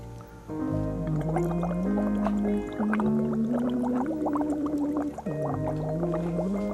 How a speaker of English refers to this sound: He'd hum me a song in water, like this.